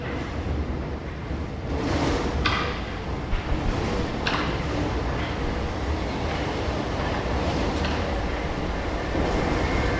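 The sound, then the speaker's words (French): A steady, loud rumble of a metro train fills the underground platform of Gambetta station in Paris's 20th arrondissement, at the start of line 3 bis, with metallic screeches and clanks flaring briefly over the continuous roar. No one speaks. “nous sommes sur le quai de la station Gambetta dans le 20e arrondissement de Paris, au départ de la ligne 3 bis.”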